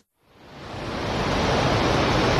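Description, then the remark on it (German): A thick, continuous roar of rushing water swells up within the first second and then holds steady and loud, with no voices over it. “Wahnsinn! Absoluter Wahnsinn! Was für Wassermasse! Was für ein Naturschauspiel hier!”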